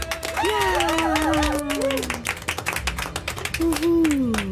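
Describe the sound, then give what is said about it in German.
An audience in Rüsselsheim applauds with dense, steady clapping that carries on throughout, while a voice rises over it with drawn-out, wavering cheers and a final sustained shout. “Einen großen Applaus für euch, ihr wart einfach großartig!”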